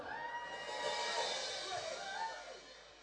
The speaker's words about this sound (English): So, ladies and gentlemen, please give a big round of applause for